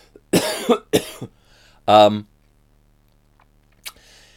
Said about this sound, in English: Excuse me, yawning.